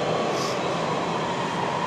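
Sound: subway train running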